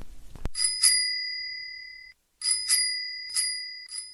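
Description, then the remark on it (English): A bicycle bell, rung outside in a back lane by a woman arriving home from work on her bike, rings clearly several times, bright metallic dings in two bursts separated by a short pause, each ring lingering as it fades. No voices. “She rides her bike to and from work and rings it outside in the back lane when she gets home.”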